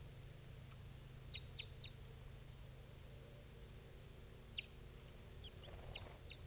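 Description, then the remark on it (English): A female bird gives short, high-pitched calls: three quick chirps, a pause, then a few more, all faint over a steady low hum and hiss, with no one talking. “That one female's calling now.”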